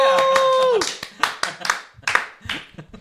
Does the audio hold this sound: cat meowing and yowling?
no